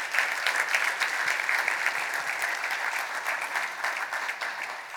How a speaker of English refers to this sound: I need people to see how many other people in this community are doing this. In the back. In the front. Yeah. Yeah. Just clap for me.